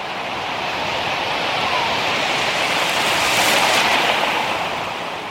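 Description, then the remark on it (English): Ocean surf roars steadily, a broad wash of breaking waves where surfers are riding, swelling slightly midway, with some wind rushing across the microphone and no voices. “he's about to take his turn out on the waves.”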